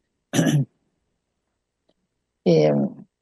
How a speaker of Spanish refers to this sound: Me pica muchísimo la garganta. Hay un vientito. Como ya he contado otras veces, tengo unos árboles acá, de esos que larga mucho polvillo. Y cuando hay viento me da esa picazón, así que disculpen esa tosecita que me surge.